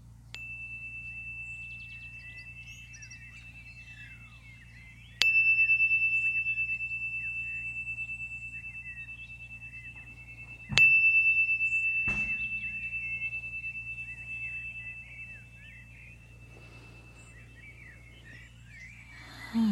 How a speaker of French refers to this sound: Et puis je vais faire résonner un petit carillon 3 fois. Et au bout des 3 fois, vous pourrez revenir vous asseoir.